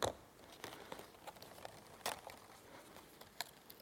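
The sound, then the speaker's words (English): Quiet paper handling as a piece of a foldable paper microscope is torn off its sheet: a series of short, dry crackles and rips, with a sharper tearing burst midway as the piece is pulled free. No voices. “What you do is you take it on, and just like you were playing like a toy, which it is, I tab it off.”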